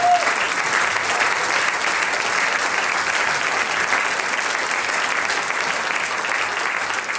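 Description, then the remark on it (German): Loud, sustained applause from a large audience, a dense wash of clapping that stays steady and full for the whole stretch with no voices standing out. “For me, meine Damen und Herren, ihr kriegt ja einen riesengroßen Applaus.”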